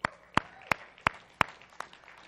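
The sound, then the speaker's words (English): Six sharp, evenly spaced claps of audience applause at an evening gathering ring out in a steady rhythm, each a crisp slap with a brief tail, over faint background noise and no talking. “So I just want to give yourselves an applause tonight for Jesus.”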